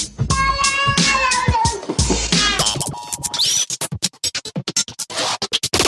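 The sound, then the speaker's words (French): A cat meows in long, wavering cries, loud, then a quick run of sharp rhythmic scratching bursts takes over toward the end. “Mais tu sais, c'est quand même une des mamelles du web, hein, les chats.”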